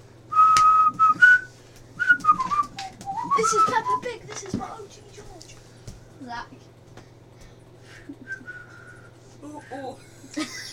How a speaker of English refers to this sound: Where's this whistle? We're waiting.